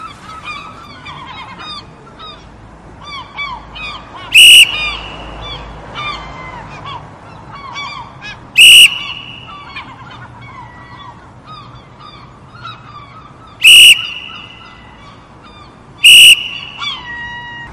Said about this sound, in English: Paris blowing her whistle, loudly, repeatedly. In between the squawking of the low-flying seagulls